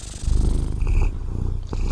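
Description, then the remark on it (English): A ginger cat purrs steadily, a low continuous rumble with a gentle rhythmic pulse, heard alone with no voices. “And then bring your attention to the purring of this cat.”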